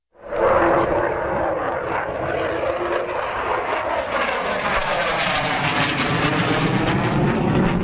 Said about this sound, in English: Turkish F-16s continue to fly sorties against PKK positions, and warplanes buzz low over Diyarbakir.